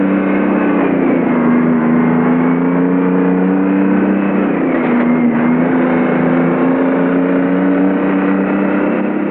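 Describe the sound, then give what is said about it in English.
Vehicle engines drone loudly and steadily as a truck and a police car drive off down the road, the motor pitch dipping briefly midway before climbing again, with no voices present. “Coulter drives the police car ahead of him.”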